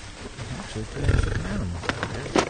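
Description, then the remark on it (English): A sedated mature bull, lying blindfolded on its side in a huge frozen swamp while biologists fit it with a collar and examine it, snores with a deep, drawn-out guttural rumble, one long rasping breath rising and falling, amid light rustling and a couple of brief sharp noises. “He seems to snore while the biologists poke and prod.”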